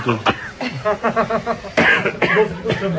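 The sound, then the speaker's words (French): Several sharp coughs burst out, a couple of harsh hacks followed by throat-clearing, with voices murmuring and talking over and between them, at an oil press in the souk of Sanaa, the coughing likely caused by sesame or mustard. “Pourquoi on tousse ? Ça doit être le sésame. Ou la moutarde, peut-être.”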